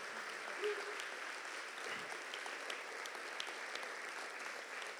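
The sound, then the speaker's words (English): A church audience applauds with steady, dense clapping for the full five seconds, a continuous crackling wash of many hands at fairly even loudness with scattered sharper claps. “If you're standing next to the son that's unnamed, point to him, clap in front of him, and look at him.”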